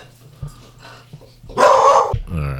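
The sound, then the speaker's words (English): Dogs barking: a couple of faint, low woofs lead into one loud, harsh bark burst, followed by a strained, tonal yelp trailing off. No one speaks. “Someone let the dogs out, guys.”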